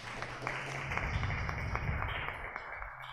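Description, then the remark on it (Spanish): An audience at a conference applauds to welcome a guest speaker, a steady, dense patter of many hands clapping that holds for about three seconds at a fairly soft, even level, with no voices rising above it. “Bienvenida, le damos una bienvenida, por favor, un aplauso.”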